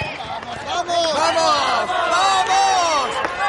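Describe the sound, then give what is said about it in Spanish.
Many young voices shout and call out over each other continuously and loudly: a group of young people yelling while playing football. “Otro día, un grupo de jóvenes está jugando al fútbol.”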